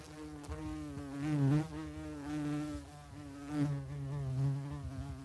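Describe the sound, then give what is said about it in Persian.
A bee buzzes, a continuous droning hum with a wavering pitch that swells louder a couple of times as it moves around. No voices are heard. “مثلا واق واق کردن بلند سگ یا یه زنبور وزوزو.”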